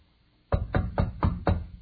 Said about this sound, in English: A knock comes at her door.